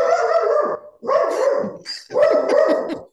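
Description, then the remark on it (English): A dog barks in three drawn-out, loud bursts with brief pauses between them, the yowling barks rising and falling in pitch. No one speaks. “The dogs are bowing. Whose woofer was that?”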